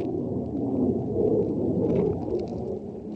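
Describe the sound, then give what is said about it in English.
A jet aircraft roars overhead in a deep, steady rumble that swells slightly in the middle and eases off toward the end, with no voices present. “A passing jet roars overhead, sounding remarkably similar to the American B-52s”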